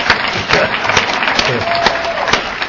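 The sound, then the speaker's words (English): An audience applauds in a steady, dense wash of clapping that stays fairly loud throughout, with faint crowd voices mixed in beneath the claps. “I'll appreciate that ovation.”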